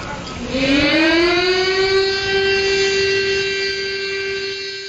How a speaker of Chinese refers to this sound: 昨天上午10点，防空警报声响彻南京城上空，南京大屠杀死难者国家公祭仪式在侵华日军南京大屠杀遇难同胞纪念馆集会广场上举行。